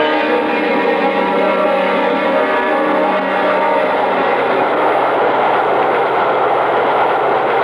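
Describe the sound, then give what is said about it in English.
A subway train roars along the rails, a loud, continuous rumble with a steady metallic whine that grows rougher and noisier partway through. No one speaks. “Come on, we're at the subway.”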